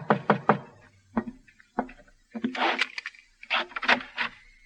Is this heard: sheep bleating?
no